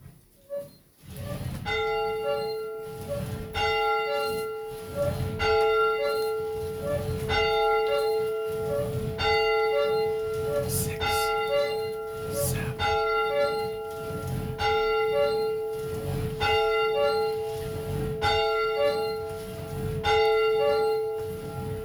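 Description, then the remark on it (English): A church bell tolls steadily, about ten strikes at a slow, even pace, each ringing out with a bright, sustained hum, rung to begin a Palm Sunday church service. The ringing is loud, with no talking. “And as always, we're going to begin our service with the ringing of the church bell.”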